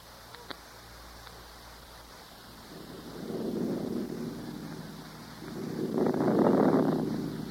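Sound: wind rising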